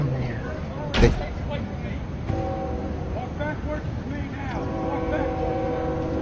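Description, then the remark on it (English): A train rumbles past, its steady low roar filling the scene, with sustained whining tones rising over the noise and a sharp clank near the start. Muffled voices may sit underneath. “Train.”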